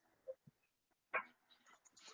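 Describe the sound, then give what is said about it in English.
A dog barks excitedly in short bursts, with a couple of small yips and then one sharper bark followed by scattered yelping. The sound is faint, with no talking. “All right, I have a dog going crazy.”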